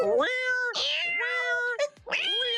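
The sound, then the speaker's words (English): A cat meows loudly, letting out several drawn-out, wavering cries in quick succession, with a strained, almost yowling edge and only brief pauses between them. “Get off her get off her kitty cat. Get off her cat.”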